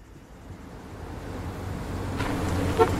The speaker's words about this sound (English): An orange car pulls up at Ervil's office.